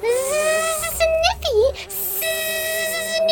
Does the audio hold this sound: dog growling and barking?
no